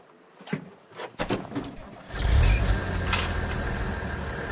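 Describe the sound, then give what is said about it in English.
A few scattered clunks and knocks, then a fishing boat's 200-horsepower six-cylinder turbo diesel engine catches and settles into a loud, deep, steady rumbling drone that carries on to the end, on a lake at Hallstatt in the dark at 4:30 in the morning. No one speaks. “The six-cylinder turbo diesel motor runs at 200 horsepower.”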